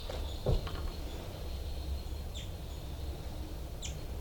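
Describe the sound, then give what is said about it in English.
A few short, high bird alarm chirps ring out at spaced intervals over a steady background hiss, with a brief thump near the start. No voices are present. “Alarm calls a bird down. Into tubes and flight call by 5, 9, and that's 3, 3. Baby begging.”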